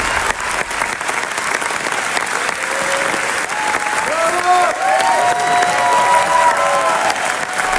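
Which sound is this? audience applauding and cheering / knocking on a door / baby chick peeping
audience applauding and cheering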